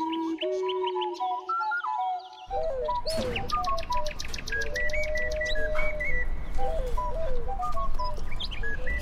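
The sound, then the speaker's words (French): Eight pet parrots, including Amazon parrots, call at once in a dense, overlapping stream of whistles, chirps and harsh squawks, fairly loud, at a house in Savigny-sur-Orge in the Paris region of France, with a rushing background noise joining after the first couple of seconds. “c'est Isulte et ses 8 perroquets qui nous ouvrent la porte de sa maison coquette de Savigny-sur-Orge”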